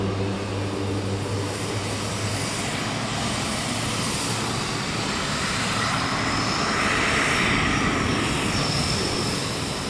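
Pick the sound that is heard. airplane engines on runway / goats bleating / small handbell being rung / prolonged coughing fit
airplane engines on runway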